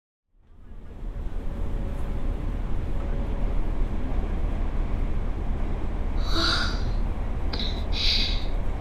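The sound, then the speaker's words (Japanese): A crowded morning commuter train rumbles steadily from inside a packed carriage, a constant low roar that fades in at the start, with a few brief high-pitched squeals near the end. “通勤の満員電車だけはいつまで経っても慣れないわね。”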